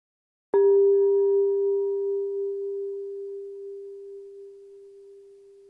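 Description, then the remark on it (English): A single bell is struck once to open a time of reflection and rings out with a clear, steady tone, its overtones fading quickly while the main pitch lingers and slowly decays over several seconds, with no voices. “A bell will ring us into this time, and then a bell will bring us back, where we will hear the first part of the story of Holy Week.”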